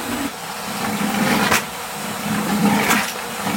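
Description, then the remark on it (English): A milking machine draws water and air from a bucket through its hose with a steady suction hiss, broken by two sharp slurping gulps as air rushes in while the claw is lifted in and out to scrub the milk hose. No one speaks. “And we lift it in and out so that it sucks air and creates a scrubbing motion.”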